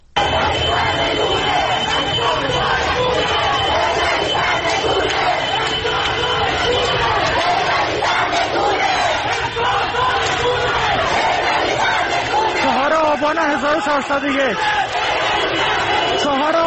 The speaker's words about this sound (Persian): صدای یکی از اعتراض‌ها رو در محله شریعتی تهران میتونیم بشنویم.